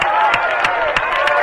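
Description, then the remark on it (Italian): An audience applauds a poet at a poetry reading, with a dense wash of clapping and a few sharper, evenly spaced claps standing out, as if some hands are keeping a beat. “Fate qualche applauso. Se non mi applaudite non leggo più.”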